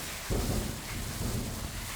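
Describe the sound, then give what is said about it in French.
A deep, rolling rumble of thunder swells up a moment in and lingers over a steady hiss of falling rain, with no voices present. “Le tonnerre gronde. Voilà la pluie, voilà la pluie, voilà la pluie, voilà la pluie.”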